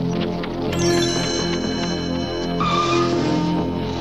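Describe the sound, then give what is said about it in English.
A rackety, filthy old buggy rattles and rumbles loudly as it passes, shooting down a bumpy, narrow road while puffing clouds of smoke, with shrill whining, whistle-like tones layered over the clatter throughout; no one speaks. “I'd know that rackety sound anywhere. It's that awful grunge buggy.”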